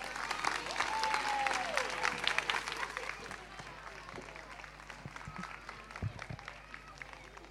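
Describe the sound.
An audience claps loudly, a dense crackle of many hands that stays strong for a few seconds, then eases to steadier, softer clapping with a few voices mixed in, applauding young pupils of class D4 as they come to sing.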